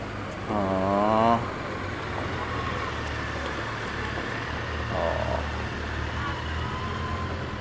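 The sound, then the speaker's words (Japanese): A four-stroke Yamaha police motorcycle returning past Notre-Dame Cathedral around noon, its engine giving a short, wavering rev early on before fading into a steady, low traffic rumble that continues throughout. “あ、パトカーじゃない、白バイ帰ってきた。ここ通るかな。ちょっとフォーサイクルエンジンなんでつまんないな。”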